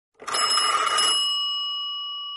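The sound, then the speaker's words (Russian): A telephone bell rings once, loud, in a silent dining room: a rapid metallic clatter lasting about a second, followed by a bright ringing tone that lingers and slowly fades. No voices are heard. “Вайолет, Клаус, Солнышко и даже тетя Жозефина, когда вдруг зазвонил телефон.”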